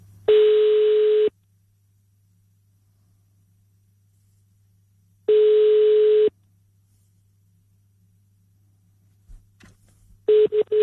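Ringback tone of an outgoing phone call placed by host Anders Lund Madsen on Radio 24/7: a steady beep lasting about a second, repeating every few seconds, three times, with a faint line hum and a couple of small clicks in between.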